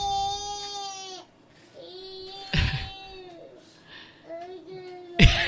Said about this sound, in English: He is yelling into his bowl from his watermelon, if anybody wants to know what that is.